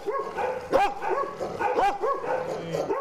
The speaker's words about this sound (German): Im Tierheim Gelsenkirchen bellen Hunde, die nach neuen Besitzern suchen.